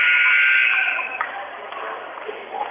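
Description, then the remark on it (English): A loud, harsh electronic buzzer blares for about a second in the Houston High School gym during a first-round game of the Class 3 District 10 basketball tournament between the Seymour Tigers and the Alton Comets, then cuts off, leaving the hum and chatter of a large crowd. “And you heard the buzzer.”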